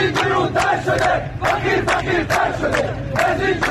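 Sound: crowd of protesters shouting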